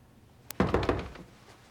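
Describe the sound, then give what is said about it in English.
A quick series of three or four solid knocks on a door, fairly loud and dull, with a faint click just before. The knocks fade into quiet, and no one speaks. “I've spent half my life thinking about what I'm gonna say to this guy if I ever got the chance, and now I can't even knock on the door.”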